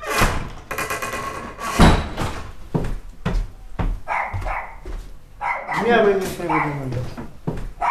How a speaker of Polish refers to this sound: wszędzie psy szczekają.